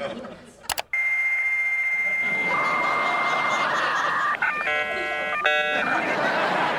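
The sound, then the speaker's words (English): A dial-up modem connects to the internet on a first computer, as shown on That '90s Show: a click and steady tones, then a harsh wall of hissing static with screeching, warbling electronic chirps and stacked beeping tones over the top, loud throughout. “And it shows them getting their first computer and signing on to the internet. And there's that sound.”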